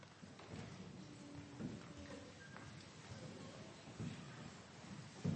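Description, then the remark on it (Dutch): A child's light footsteps tap unevenly across a hard floor as the child walks to the back to put a gift into one of three collection bags, a few soft steps over several seconds, fairly quiet, with no one talking. “Mag je naar achteren lopen?”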